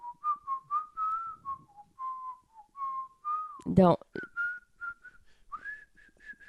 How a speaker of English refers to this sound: I can whistle on tune. No. Okay, let me try whistle again.